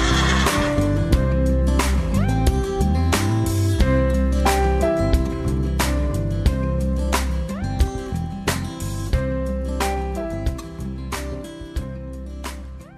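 A horse, Pegasus the winged horse, neighs and whinnies loudly and repeatedly as it sets off toward planet Earth, its shrill calls layered over a steady, rhythmic thumping and a low droning background, with no one speaking.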